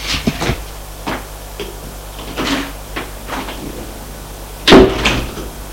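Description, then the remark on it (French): A door creaks and clunks open with a few scattered knocks and rattles, ending in a louder thud near the end, with no one speaking. “La porte s'ouvre.”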